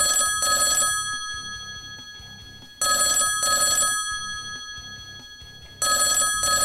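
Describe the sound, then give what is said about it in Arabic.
A telephone rings in the office of the head of the Palestine Liberation Organization office in Kuwait, in repeated double bursts, three ring cycles with short pauses between them, loud with a bright metallic bell tone and no talking. “نهض السيد علي ياسين رئيس مكتب منظمة التحرير بدولة الكويت للرد على الهاتف.”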